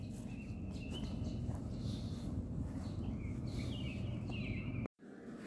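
Thin, high bird chirps and short warbling calls drift over a steady low outdoor rumble, with a brief dropout into silence near the end.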